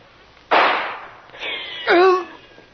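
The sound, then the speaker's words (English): A single loud, sharp gunshot-like blast from guards firing on a group landing on a beach rings out and decays, followed by a voice crying out in a strained, pained groan. “And instead of being met, as arranged, by Kitty or Lil, a surprise is waiting for them in the shape of a volley of gunfire from the guards.”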